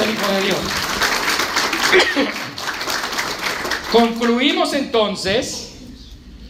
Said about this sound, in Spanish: Denle un aplauso a él. Amén.